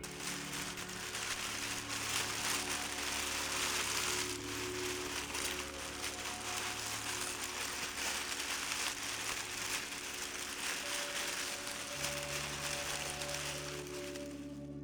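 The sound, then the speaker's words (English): Tissue paper crinkles continuously for about fifteen seconds, a soft, dense, steady crackle with no speech, over a faint low hum. “Do you like crinkly noises? If so, here's some tissue paper for you.”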